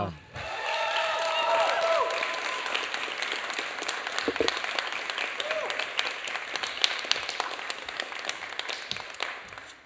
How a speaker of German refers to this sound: Und ihr dürft unsere erste Finalistin hier hoch auf die Bühne klatschen mit einem 10-Punkt-Applaus.